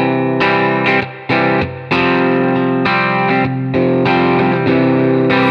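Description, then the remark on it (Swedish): A distorted electric guitar, played through an effects pedal with its tone control set to the middle, plays a chugging riff of repeated chords with short gaps between them, loud, with a thick, saturated, mid-focused tone and no voices. “Så börjar vi i mitten, så börjar först åt ena hållet, så går åt andra sen.”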